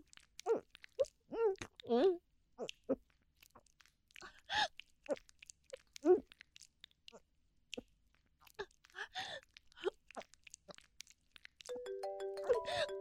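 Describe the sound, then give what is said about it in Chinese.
Scattered short vocal sounds and noises, then near the end a mobile phone starts ringing, a steady melodic ringtone of stepped electronic tones that keeps going. “等一下，我电话来了。”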